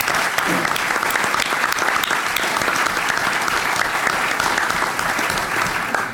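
Sustained audience applause as the audience gives itself a round of applause, a dense, steady wash of many hands clapping at an even loudness for about six seconds, fading slightly at the very end.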